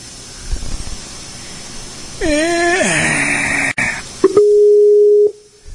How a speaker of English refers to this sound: So everybody gets to hear the call and all that kind of stuff, the ringing.